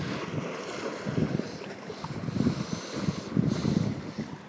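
Small waves wash in along the shore of Torch Lake on a cloudy, windy day with whitecaps, in soft, repeating surges under a steady rush of wind buffeting the microphone, with no voices present.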